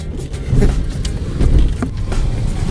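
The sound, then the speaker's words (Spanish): Steady low engine rumble and road noise from inside a moving taxi, with faint swells and brief rattles, no one speaking. “Estamos en su taxi.”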